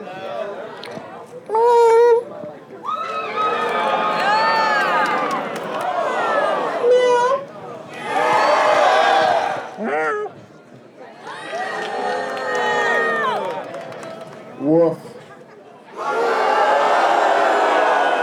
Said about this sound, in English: There was a lot of meowing and a lot of cheering, but this crowd didn't let any slackers through. There were a lot of boos.